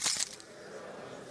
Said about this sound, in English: Pull in the drive. You rattle your keys.